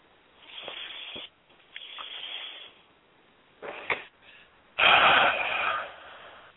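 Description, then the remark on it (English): Heavy breathing: four slow, airy inhales and exhales with short pauses between, the last breath the loudest and longest. No one speaks. “So I'm just breathing. Yeah, so I join you in that. I hear you loud and clear.”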